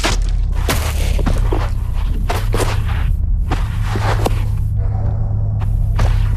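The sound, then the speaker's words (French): An unstunned sheep having its throat cut: no bleat or cry, only repeated irregular thuds, scuffs and scraping bursts of struggle over a steady, loud low rumbling hum. “Vous allez entendre l'agonie d'un mouton non étourdi dont la gorge est tranchée.”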